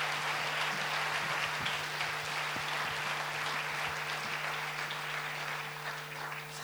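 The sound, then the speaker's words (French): An audience applauds as jury president Marie Sauvion of Le Cercle on Canal+ is called up to give the jury's result, a dense, continuous wash of many hands clapping at fairly even loudness, with a faint low hum underneath, tapering slightly at the end. “Je crois qu'on peut l'applaudir très fort.”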